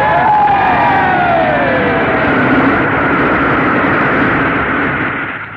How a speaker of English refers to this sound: A big cheer for the mayor.